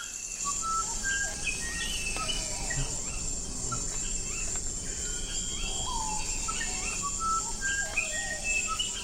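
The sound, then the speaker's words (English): Clear, flute-like whistled notes of a musician wren in the Amazon rise and fall in short melodic phrases, set against a constant high buzz of insects in a lush forest. “Listen for the delicate call of the musician wren.”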